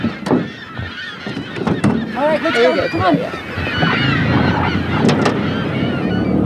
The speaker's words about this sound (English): Gulls fly above us in every direction. How many gulls do you estimate we're seeing? It's actually looking like this could be an all-time low. So it seems like a lot. It seems really noisy,